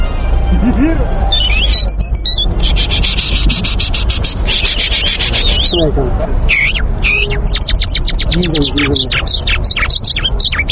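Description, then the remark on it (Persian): A parrot babbles in garbled, speech-like phrases, mixed with sharp chirps, whistles and rapid rattling trills, continuing steadily throughout. “بر علاوه توتی پرندگان دیگر هم هستند که تا اندازه می توانند اصوات انسان را تقلید کنند، که از جمله می توان مینا و جل را نام برد.”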